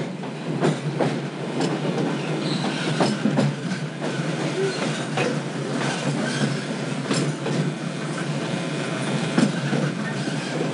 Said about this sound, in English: Nowadays, the rails can carry us safely through the wild, and a trip that used to take months can now be made in just a few weeks.